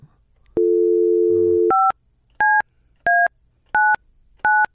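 A steady telephone dial tone hums for about a second, then four crisp touch-tone beeps sound at an even pace, each a short two-note chirp, clear and close with no one talking.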